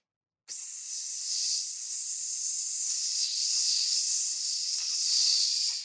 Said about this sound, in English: That sounds like a fuse. Or a balloon. You know, with the air coming out.